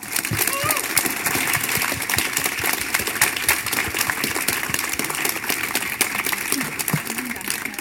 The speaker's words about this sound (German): Ich klatsche sie mit einem 10-Punkt-Applaus hier ins Mikrofon.